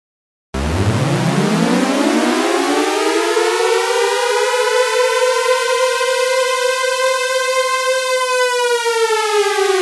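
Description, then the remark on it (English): A synthesized tornado siren wails, its pitch sweeping up from a low growl to a steady, loud, sustained tone with rich harmonics, sounding alone with no speech. “Demo number eight, synthesized tornado siren.”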